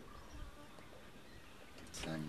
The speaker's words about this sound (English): If it's a wasp, Jonathan has extreme allergy history.